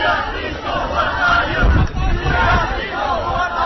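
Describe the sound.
A crowd of protesters outside the conference center in Copenhagen shout together "We are peaceful, what about you?" as Danish police arrest over 200 people, a dense, continuous roar of overlapping voices, steady and loud, with a brief surge of intensity midway through.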